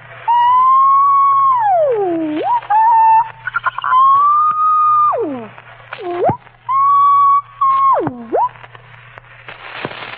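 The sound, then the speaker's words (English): A voice imitates radio static and tuning: steady whistling tones that swoop downward in pitch, broken by brief crackly bursts, loud with no talking. “Next, we have some static.”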